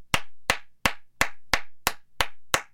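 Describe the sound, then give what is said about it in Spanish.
One person claps their hands eight times at a steady, moderate pace, applauding the writer of an Old Spice commercial, each clap a sharp, bright smack with a short ring-off. Nobody speaks. “Voy a hacer una pausa de un momento para aplaudir al escritor de este anuncio.”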